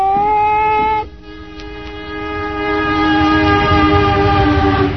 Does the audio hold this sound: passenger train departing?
yes